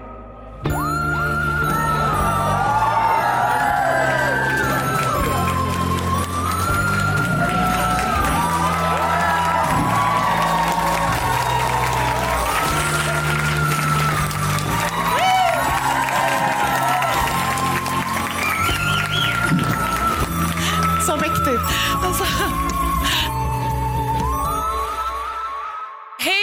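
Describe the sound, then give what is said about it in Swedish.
A large live audience cheers, whoops and applauds loudly and steadily for almost half a minute, the crowd noise blending with music underneath before fading at the end. “Välkomna till Mord mot mord live. Vad kul att se så många här.”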